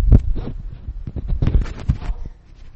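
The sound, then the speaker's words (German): A ventilation system gives off a continuous rushing hum with deep rumbling low end, unevenly pulsing and throbbing throughout, with no voices over it. “Du hörst das Rauschen. Wir haben Lüftungsanlage und wir müssen das irgendwie hinkriegen.”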